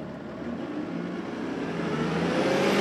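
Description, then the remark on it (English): Road traffic rumbles on busy Gratiot Avenue near 12 Mile in Macomb County as a large vehicle's engine accelerates, the steady roar swelling louder over a few seconds with no one speaking. “About three-quarters of a century later, a portion of that transit system unfolds along Gratiot Avenue near 12 Mile in Macomb County.”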